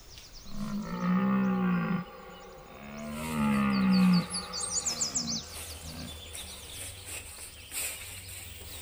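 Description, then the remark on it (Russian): A disturbed bear growls twice, deep and loud, each rumbling roar lasting over a second, while birds chirp faintly in the background. “Ой, ты уж, Михайло Потапыч, не серчай. Прости, что потревожил.”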